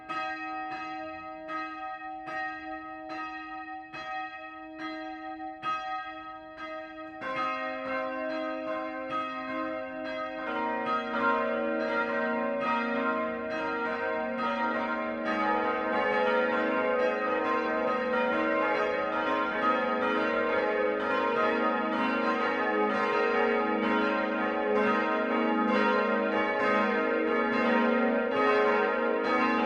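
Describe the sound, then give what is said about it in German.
Five church bells peal from a saddleback-roof church tower in Füssen, starting with one or two and building to a full, dense ringing that swells louder and keeps going steadily, with no voices. “Im Füssener Satteldachturm läuten 5 Glocken.”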